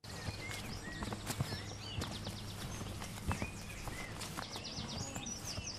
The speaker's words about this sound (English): We begin with the sound of life on the land, on a beef and sheep farm. May is, of course, arguably the best month of the year to see and hear nature.